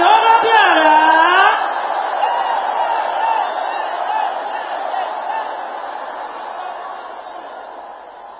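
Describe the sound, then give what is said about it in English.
A crowd erupts in a loud, sustained collective shout of amen, rising voices overlapping at first, then settling into a broad roar that slowly fades over several seconds. “Let that amen roll like thunder.”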